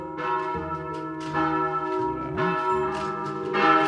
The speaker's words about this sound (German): Heiliger Bimbam. Mit unseren heutigen Kirchenglocken.